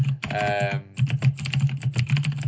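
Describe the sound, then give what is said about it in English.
Rapid, loud keystrokes clatter on a computer keyboard, a dense run of clicks that keeps going with no pauses and no voices over it. “sorry, there's going to be really loud typing for a second.”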